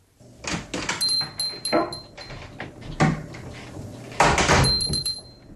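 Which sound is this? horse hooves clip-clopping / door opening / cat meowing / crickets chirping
door opening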